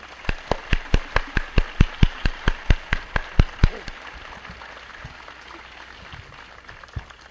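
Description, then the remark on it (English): An audience applauds the organizers of the event, with steady, evenly spaced sharp claps, about fifteen in quick rhythm, that stop after a few seconds and trail off into faint scattered taps. “We like to ask you a good round of applause for this wonderful people who put all this together.”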